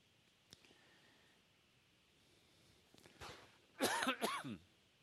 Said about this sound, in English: I'll try to keep my cough under control this morning. It's much better now than it was a few nights ago, I'll tell you.